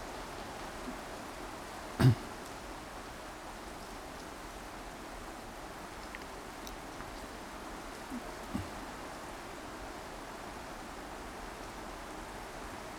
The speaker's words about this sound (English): What a perfect day for Guru Purnima. It's raining, it's cloudy.